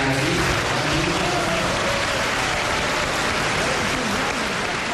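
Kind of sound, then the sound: crowd, applause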